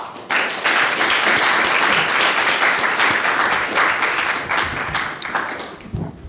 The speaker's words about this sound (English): Well, thank you very much. I'd ask you to give the panel a round of applause.